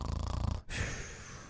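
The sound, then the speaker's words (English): A person imitates the snore of someone whose weak tongue falls back in the mouth: a low, rattling, guttural inhale, a brief break, then a long breathy hiss of an exhale. No talking. “You snore,”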